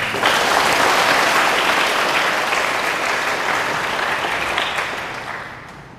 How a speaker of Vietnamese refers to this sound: Đó là nỗ lực rất đáng được trân trọng của thầy trụ trì. Các con hãy dâng cao một tràng vỗ tay thật lớn để tán dương.